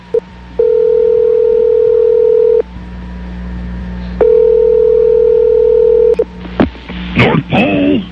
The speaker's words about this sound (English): And I think we have the number. Let's go ahead and dial up Santa Claus and see if we can talk to him this morning.